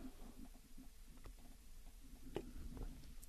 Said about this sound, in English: I've got to take a sip of my tea here, folks.